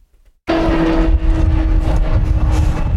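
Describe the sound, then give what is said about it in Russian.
Loud, steady engine roar starts abruptly after a brief quiet moment and stays powerful, with a droning hum under broad rushing noise, on the airfield of Riga airport as planes take off and land. “На летном поле аэропорта Рига слышны только звуки взлетающих и приземляющихся самолетов.”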